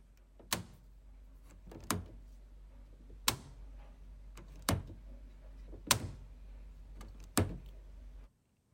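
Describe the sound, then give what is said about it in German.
A door is opened and shut repeatedly, six sharp clunks spaced about a second and a half apart over a low steady hum, with no voices. “Tür auf und zu machen.”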